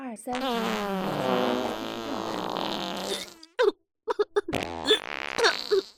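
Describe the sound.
A loud, drawn-out fart rumbles and sputters for about three seconds, followed by a brief pause and then short voice-like bursts and exclamations.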